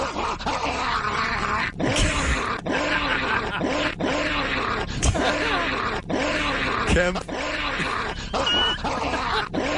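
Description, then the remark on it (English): A man's voice imitates a dog, letting out a continuous string of rough barks, growls and grunts, with a few sharp bursts standing out along the way. “Down, boy! Down!”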